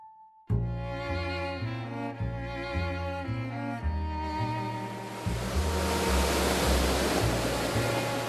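Waves wash in as a swelling rush of surf beneath a steady instrumental melody, the ocean noise building gradually and growing louder toward the end.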